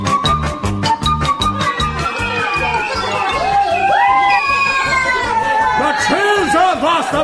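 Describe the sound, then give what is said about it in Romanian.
A crowd of children shouting and cheering, many overlapping excited voices rising and falling in whoops, fairly loud and continuous over a steady rhythmic thumping underneath. “Parcă ar fi iarnă, iar pe dealurile de lângă palat s-ar da cu sanii o mulțime de copii.”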